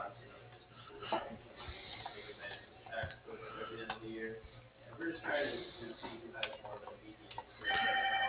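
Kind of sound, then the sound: signal or alarm, phone ringing unanswered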